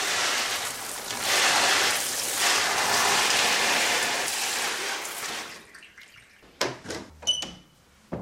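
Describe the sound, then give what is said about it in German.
A shower head sprays a steady, hissing stream of slightly less than hand-warm water onto a green houseplant standing in a bathtub for about five seconds, then cuts off, followed by a few scattered drips and light clunks. “Jetzt ist es gerade gut und jetzt wird sie duschen.”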